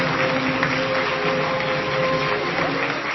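An audience applauding the winner announced in the Visual Arts category, a dense, steady wash of clapping that stays loud and even for the full few seconds, with a faint sustained hum running underneath.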